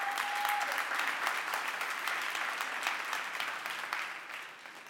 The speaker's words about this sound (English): Let's give the production team a hand clap.